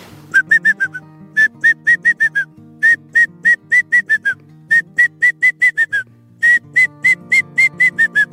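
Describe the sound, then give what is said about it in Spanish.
Ornate hawk-eagle adult and chick calls: loud, clear whistled notes repeated in quick bursts of five to eight, each run dropping slightly at the end, over a low steady hum. “Hay otra especie que es muy bonita, de una de mis favoritas, que es águila elegante, las Pisaetos ornatos, que le hace.”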